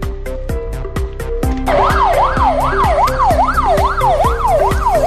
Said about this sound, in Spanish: Aquel martes por la tarde fue enorme el revuelo en la calle Pepe Blanco de la capital riojana. El sonido de estas sirenas de las patrullas de la Policía Nacional alteraba por completo la paz de los vecinos en esa céntrica calle.